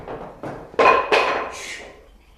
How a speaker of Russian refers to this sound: Не стучат ли? Открыто!